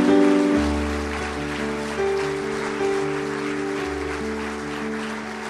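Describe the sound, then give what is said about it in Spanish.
An audience breaks into sustained applause, a dense wash of clapping lasting several seconds at steady loudness, with a low organ-like drone and held tones underneath and no speech. “¿Por qué no damos un fuerte aplauso a un ejemplo de algo así?”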